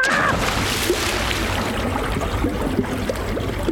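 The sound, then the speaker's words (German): Water churns and sloshes, a steady turbulent wash with small splashes and bubbling as a person falls into the water and thrashes about. No one speaks. “Ich muss schon sagen, ich fand's echt witzig, wie du da ins Wasser gefallen bist, auch wenn ich ganz genau weiß, dass das nicht echt war.”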